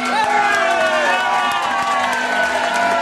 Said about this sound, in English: The crowd is amped up. They turn to the postal worker who's behind the glass doors.